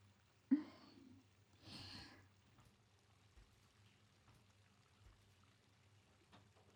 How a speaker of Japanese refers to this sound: 全身泡だらけになっちゃいましたね。熱いシャワーで流してしまいましょう。